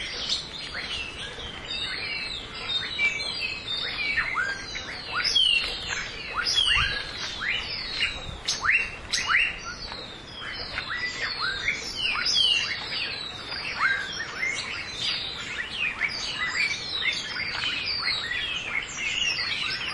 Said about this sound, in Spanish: Otro sonido de muchos pájaros en el mismo lugar.